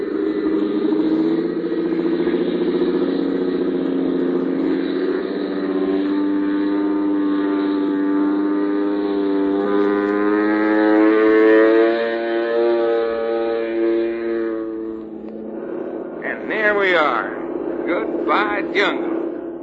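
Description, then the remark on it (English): A small airplane engine drones steadily with a buzzing, harmonic hum that swells slightly in pitch and loudness midway, then a voice briefly speaks over it near the end. “Running like a sewing machine.”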